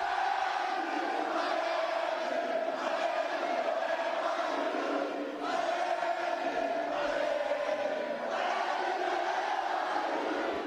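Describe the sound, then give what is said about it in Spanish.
About 1,000 Atlético de Madrid fans at the team's hotel at 8 in the evening, awaiting the players, sing and chant the club anthem together: a loud, continuous wall of massed voices with sustained sung notes and brief dips between phrases. “A las 8 de la tarde de ayer, hotel de concentración del Atlético de Madrid, 1000 aficionados del equipo rojo y blanco aguardaban a los suyos de este modo.”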